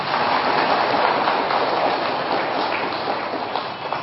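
An audience at a Buddhist teaching applauds steadily for about four seconds, a dense, even wash of many hands clapping at once with no voices over it, easing slightly toward the end.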